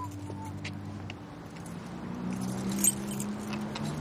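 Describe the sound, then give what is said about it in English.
A faint jingle of keys and a quick metallic click as a man unlocks the door of a van outfitted like a small motorhome, over a steady low hum, followed by a soft rustle as he opens the door. “He unlocks the door and opens it.”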